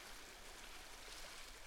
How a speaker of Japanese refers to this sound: 波の音がきっといい安眠剤になってるはずよ。この海は本当に落ち着く。